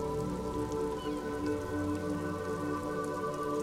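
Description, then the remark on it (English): Steady rain pours down continuously, a dense, even patter on hard surfaces that stays constant throughout, with no voices or other sounds breaking through. “As the rain continues to come down, we enter back in the same entrance we came through.”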